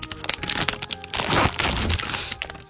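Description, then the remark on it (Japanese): Crinkling and crackling of the plastic wrapper of a small dark-brown durian sausage snack, about a third the size of a fish sausage, with durian photos on the package, being torn and pulled open in a Bunka Hoso radio studio, with sharp snaps and rustles running continuously for a few seconds and no voices. “なんこれ、サイズ感は本当にね、そのいわゆる魚肉ソーセージ3分の1ぐらいのサイズで、パッケージにドリアンの写真が並んでいてですね、色は本当にこう濃い、茶色という感じでね、開けてみます。”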